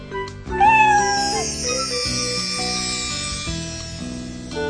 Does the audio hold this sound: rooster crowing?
no